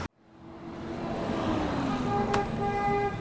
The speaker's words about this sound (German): Tel Aviv ist bunt, laut, lebendig. Die Straßencafés sind voll. Keiner stört sich am Verkehrslärm.